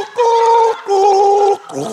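person gargling

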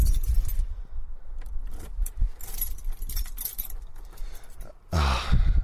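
bunch of keys jangling

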